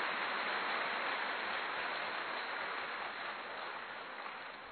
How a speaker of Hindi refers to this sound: तो गुजरात में ये गुण है नई नई इन्वेंशन करके और नए नए काम करना। बजाओ अपने लिए ताली।